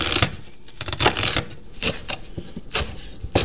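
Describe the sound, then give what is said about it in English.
A knife chops an onion on a cutting board in a kitchen, while making nettle dandelion soup, in a run of crisp, sharp taps at an uneven, brisk pace, with no voices over the steady clicking. “We've got our water boiling for the nettles, and we are chopping up our onion and dicing our garlic as we wait.”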